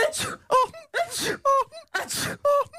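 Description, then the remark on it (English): Three loud sneezes performed back to back on air during a radio show, evenly spaced. Each starts with a harsh, breathy burst and ends in a short, pitched voiced 'choo'. No other sounds. “Another sneeze there before you get us off air.”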